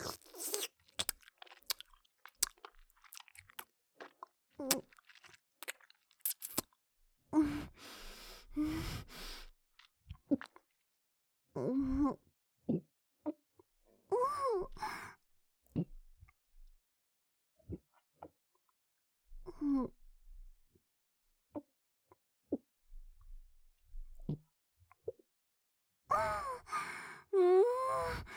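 Wet mouth sounds of someone chewing and gulping down a smooth, easy-to-drink beverage, with irregular smacks, swallows and soft crunches broken by short pauses and a few audible breaths.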